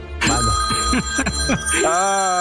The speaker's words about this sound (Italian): Ma quante telefonate ricevi al giorno? Cosa faccio? Rispondo o no? Sono in dubbio.